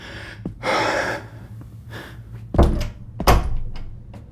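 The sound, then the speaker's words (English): A door opens with a soft rush and rustle, then two solid thuds follow as it swings shut and latches. No one speaks. “you're just about the last person I expected to walk through my door”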